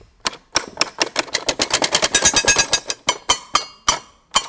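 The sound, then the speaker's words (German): A metal plate is struck rapidly by a beater that hits it when pressed, making noises rather than tones. It produces bright, dry clicking hits that speed into a dense typewriter-like clatter, then thin out to a few spaced strikes. “Und wenn man drauf spielt, dann klingt das fast wie eine Schreibmaschine.”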